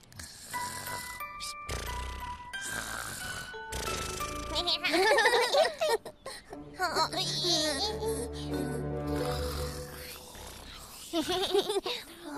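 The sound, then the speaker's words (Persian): A voice gives exaggerated, drawn-out pretend yawns, acting out sleeping under a tree, with sweeping vocal glides, over light chiming tones and playful babbling sounds. The yawns are fairly loud, acting out sleepiness. “این عده خاله با خمیازه جدی جدی خواب آلوم کرد.”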